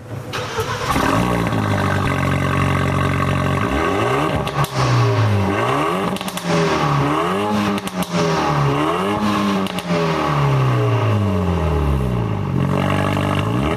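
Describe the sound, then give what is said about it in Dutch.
A Renault Megane RS Trophy R engine starts with a quick crank and catch, then settles into a deep idle broken by several sharp revs that rise and fall in pitch, loud and continuous with no talking. “Ja, maar je hoort het eigenlijk bij het starten al dat dit een auto is die is gemaakt om te rijden.”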